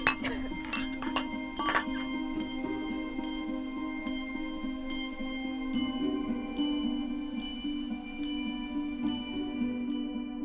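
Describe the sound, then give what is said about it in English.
Wine glasses clink together in a toast several times in quick succession near the start, then a clear ringing tone hums on steadily and fairly quietly, with faint voices murmuring in the background. “Let's do this once again. Okay. Cheers. Cheers.”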